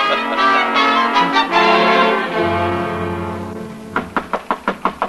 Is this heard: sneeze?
no